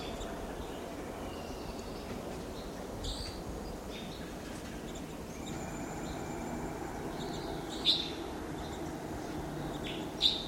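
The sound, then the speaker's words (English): A small flock of four to five wild Type 2 crossbills, together at the top of a lodgepole pine, gives a few sharp, high chip calls, scattered irregularly over a steady rushing background hiss, with two brighter calls standing out near the end. “Type 2s, that's 4 to 5 they're calling.”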